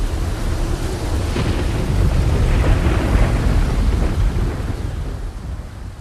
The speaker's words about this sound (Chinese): 哇，这个说变就变呐，暴风雨就要来了！ 打雷，好大声哦！